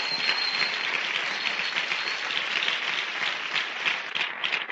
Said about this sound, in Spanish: Es un fuerte aplauso porque están aquí domingo haciendo esto que estamos haciendo.